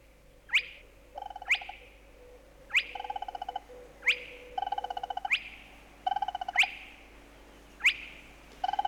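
A spotted crake's abrupt whistling call, heard at night on the outskirts of a town as the bird walks through it, coming first from one ditch and then another: a sharp rising "whit" repeated about every second, with quieter rapid ticking trills filling the gaps between whistles. No one speaks.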